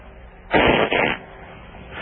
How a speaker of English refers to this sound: Yeah, I got something for you real quick. You got a fart?